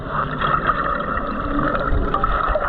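Steady, dense splashing and sloshing of water as a swimmer wearing a monofin slides in, a continuous rush with a few brief surges and no voices.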